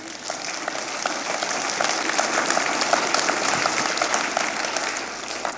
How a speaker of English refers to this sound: Can we hear a hand clap for Jesus?